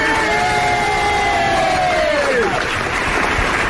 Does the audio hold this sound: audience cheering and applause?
yes